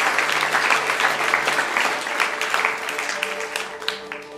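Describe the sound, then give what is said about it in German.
An audience applauds steadily for Jesus, a dense wash of many hands clapping throughout, with faint tonal music held quietly underneath. “Komm, lass uns Jesus mal einen Applaus geben, dass er heute noch wirkt, dass er heute noch Menschen rettet.”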